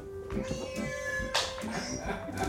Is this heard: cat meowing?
yes